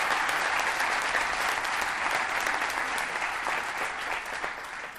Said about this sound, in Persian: حداقل امروز تونستم به این استرسم در واقع غلبه بکنم و بتونم تو جمع صحبت بکنم. زحمت میگیرین حداقل منو تشویق بکنین. باریک الله. آفرین. ماشاءالله.